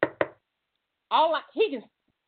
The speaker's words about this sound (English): I didn't disrespect her. I did disrespect her by knocking on her door. How is that disrespectful?